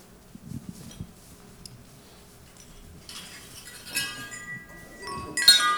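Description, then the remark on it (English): A wind chime ringing: after a few soft knocks, clusters of bright, sustained metallic tones begin to overlap and shimmer, swelling louder toward the end as more chimes strike. “A wind chime.”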